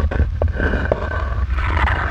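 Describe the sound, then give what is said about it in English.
A video game's map-edge border sound: a loud, steady, low roaring drone with a rough, rumbling texture and faint brief tonal blips, lasting the whole two seconds with no talking. “That sound means you've hit the edge of the map. That is a really weird border sound.”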